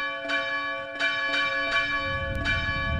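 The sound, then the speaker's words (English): Christmas bells ring in a steady series of strikes, each note ringing out and overlapping the last, with a soft low rumble building underneath toward the end. No voices are heard. “The miffed merriment was only ended when the Christmas bells brought it to a screeching halt.”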